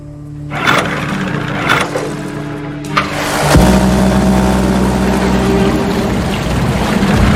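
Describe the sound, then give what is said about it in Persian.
A small four-stroke boat motor with a hand pull starter is pull-started with a few sharp yanks, then catches and settles into a steady idling drone that continues to the end. “این صدا ممکنه مال یه جور موتور قایق باشه با یه استارتر دستی.”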